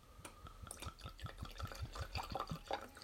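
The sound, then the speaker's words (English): Blackened whiskey glugs from a bottle into a glass in a quick, steady series of rhythmic gurgles, clear, with the pitch rising slightly as it pours; no one speaks. “Now I'm going to pour a little bit more into the glass.”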